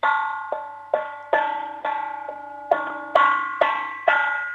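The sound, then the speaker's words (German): A metal cooking pot from the kitchen, not a big one, is struck with a spoon about nine times in an uneven rhythm to make noise over the radio in Austria, each loud clang ringing on with a bright, bell-like tone, almost like a church bell, before the next hit. “Hol einen Kochtopf und einen Löffel und dann möchte ich so richtig viel Lärm hören. Klopf mal drauf, weil ich liebe Lärm.”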